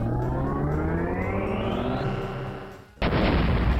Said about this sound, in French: Encore une fois, Wario était dans un canon. Il fit propulser à une vitesse 2 fois plus grande.